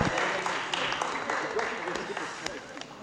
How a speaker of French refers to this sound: Allez, on peut applaudir